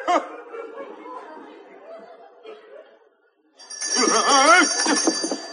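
After a few seconds of laughing voices and a brief pause, a bell rung by the master of the house to summon a servant rings out loudly and steadily, its bright tones sustained to the end while voices carry on underneath.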